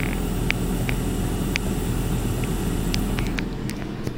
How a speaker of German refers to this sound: Ja, und wenn wir ganz nah rangehen ans Gerät bzw. die Pfanne, hören wir es da auch ein bisschen brutzeln, auch wenn es etwas vom Motor übertönt wird.